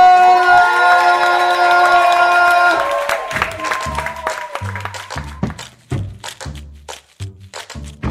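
An audience at a brunch show breaks into loud applause and cheering for the performer closing out the show, the clapping dense and steady for several seconds while sustained tones and then a thumping rhythmic beat play underneath.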